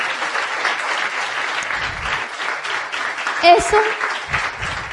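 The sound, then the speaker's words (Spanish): Steady, dense audience applause for a woman attending on her birthday fills the whole clip, a continuous wash of many hands clapping, with a brief cheer or whistle rising above it partway through. “le demos un fuerte aplauso de reconocimiento de que por su cumpleaños está hoy aquí.”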